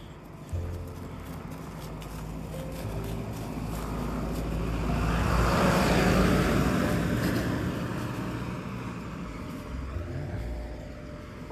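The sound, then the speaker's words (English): A Green Drop charitable-donations box truck, there for a pickup, rolls slowly past on a road, its low engine rumble and tire noise swelling steadily to a peak midway, then fading gradually. There are no voices. “Apparently the truck's gonna go by us slowly while dog looks for something on the side of the road.”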